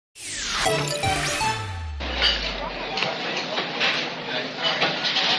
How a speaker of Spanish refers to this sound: Este es el sonido habitual a esta hora en muchos bares y cafeterías de aquí, de Madrid o de cualquier otro punto de España.